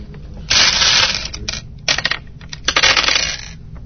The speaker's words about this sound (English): I'll shoot. I'm going to roll random dice.